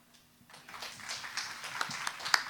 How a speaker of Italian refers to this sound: Addirittura gli applausi, addirittura. Me l'aspettavo.